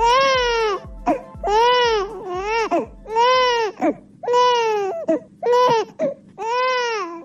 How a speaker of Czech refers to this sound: Ovaj zvuk plača bebe u Bosni i Hercegovini, sve se slabije čuje.